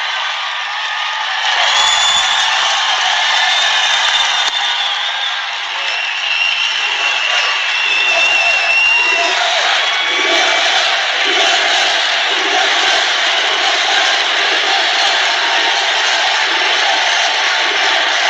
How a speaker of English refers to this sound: I hate to turn this down. That is a huge crowd, and they're going wild.